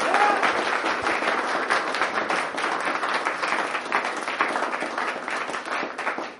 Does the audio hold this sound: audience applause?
yes